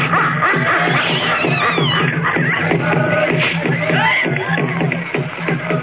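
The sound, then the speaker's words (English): Many voices chant together in a steady, droning rhythm over repeated pounding drum beats, loud and continuous throughout. “Hear that chanting on them savage drums?”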